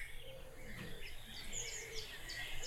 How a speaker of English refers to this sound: You have any idea about this bird? You ever heard it before? Let's hear it again. Come on. Sing for us.